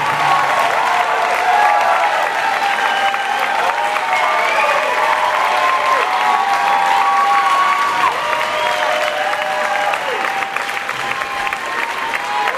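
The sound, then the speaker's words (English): A large audience applauds steadily and loudly after a live concert set, a dense wash of clapping that holds throughout, with scattered cheers and whistles rising above it. “leaving a crowd here quite happy playing. A terrifically beautiful set.”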